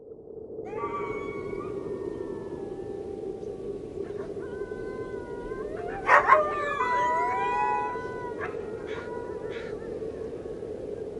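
Several wolves howl in a drawn-out, overlapping chorus, their long rising and falling wails weaving together over a steady rush of wind, with a brief sharper yelp midway through.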